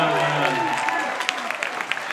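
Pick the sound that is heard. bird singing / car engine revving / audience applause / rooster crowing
audience applause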